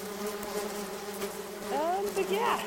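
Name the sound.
bees buzzing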